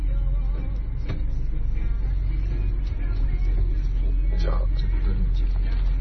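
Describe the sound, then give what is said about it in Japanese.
A car's engine rumbles low and steady throughout as it slowly reverses into a parking space, heard from inside the vehicle, with a few soft knocks and faint murmured voices in the background. “バックでそこ入れますか。”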